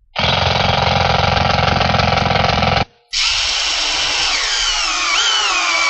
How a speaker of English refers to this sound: Now, I'm going to use a drill on these because I want them to look a little nicer. So what I'll do is just take a punch here, and I'll make a little hole through to the board for everywhere that I'm going to drill.